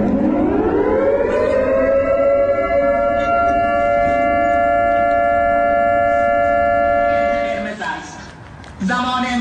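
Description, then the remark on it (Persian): A loud civil defense warning siren, sounded in Shahin Shahr, Isfahan, Iran, during protests, rises and holds a long, steady wail with strong harmonics, then briefly dips and surges again near the end, with faint crowd noise or voices underneath. “آژیری که در شاهین شهر اصفهان هم به صدا در آمد.”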